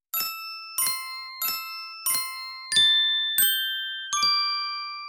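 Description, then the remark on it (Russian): Spoons tap icicles of different lengths hanging from a roof, giving seven bright, crystal-like chimes at shifting pitches that form a simple melody, struck at an even pace, each ringing on briefly; the last few sustain longer. No voices. “Тот стучал ложками по сосулькам, свисавшим с крыши.”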